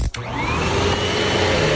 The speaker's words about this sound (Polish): To był naprawdę wielki odkurzacz.